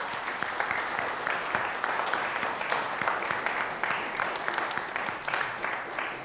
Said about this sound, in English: And so I want to say again, happy Mother's Day. Can we give mothers a round of applause? Is that okay?